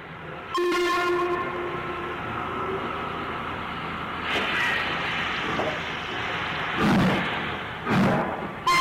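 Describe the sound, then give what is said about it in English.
A steam locomotive whistle on a nine-van Carlisle to Perth parcels train sounds several times at night, loud, as the driver calls for the signal to clear; its first blast long and steady, with short bursts following over a continuous rumble of the train. “Five minutes later, the driver repeatedly sounds the whistle for the signal to clear.”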